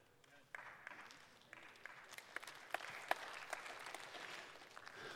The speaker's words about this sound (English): Weak, but it's applause.